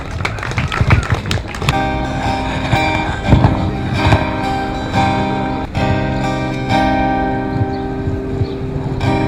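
An audience at a rally breaks into dense applause, which soon gives way to sustained, steady musical tones, with a few scattered claps still sounding underneath.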